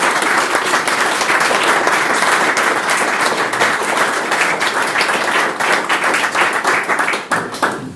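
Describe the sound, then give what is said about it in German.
An audience at a gallery opening applauds steadily, a dense, loud wash of many hands clapping at once, sustained for several seconds before thinning slightly at the end. No one speaks over it. “Ja, vielen Dank für diese freundliche Rede und den Applaus.”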